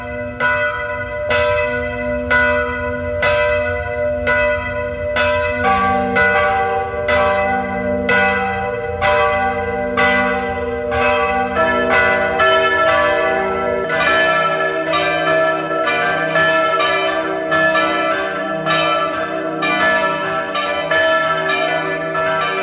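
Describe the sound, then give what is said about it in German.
Several church bells of the pilgrimage church of Maria Hilf in Ebenthal near Klagenfurt peal together at 12 o'clock noon in a steady, overlapping rhythm, loud and sustained with rich ringing overtones, joined by more bells partway through; no voices are heard. “Sie hören die Glocken der Wallfahrtskirche Maria Hilf zu Ebenthal bei Klagenfurt.”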